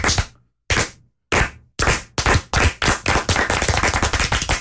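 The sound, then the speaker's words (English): A slow 'Rudy clap' given in congratulation begins with a few widely spaced, sharp claps that steadily quicken, building into rapid continuous applause from a small group. “Let's start this week with a Rudy clap.”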